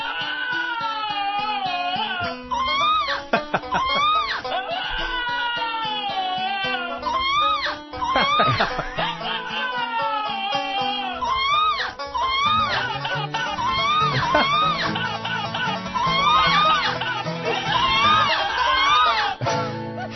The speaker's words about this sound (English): And that is my new obsession, Cody the Screaming, the dog that screams like Sam Kinison, fighting Dana Loesch.